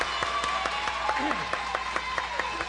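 A small group claps together in a steady, fairly rhythmic burst of applause that stays at an even level throughout, with some murmuring and other background sound mixed underneath.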